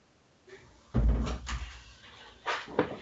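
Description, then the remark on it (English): A door swings shut with a solid, low thud, followed by a few lighter knocks and clicks as it settles into the frame. No one speaks. “Let me shut the door a second.”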